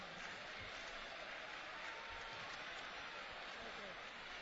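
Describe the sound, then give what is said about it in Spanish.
A steady, dense wash of crowd applause for the parents' association (AMPA) of Colegio Nuestra Señora de los Dolores at a Christmas event, loud and continuous without pauses, like an audience clapping together. “Fuerte aplauso para ellas.”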